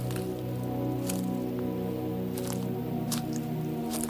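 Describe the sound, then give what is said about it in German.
Crackling, snapping footsteps: a handful of sharp, irregular crunches sounding over a steady low hum, with no voices. “Es knistert und knackt unter unseren Füßen, es hallt und schallt irgendwo im düsteren Raum.”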